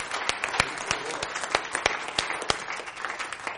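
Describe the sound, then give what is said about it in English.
An audience applauds with dense, steady hand clapping, many hands overlapping into a continuous wash with a few sharper individual claps standing out, moderately loud and sustained throughout. “Let's give him a hand clap tonight.”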